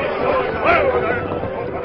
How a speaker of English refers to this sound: As the Lone Ranger and Tonto reined up, the distant rifle fire subsided, but the agitation of a crowd increased.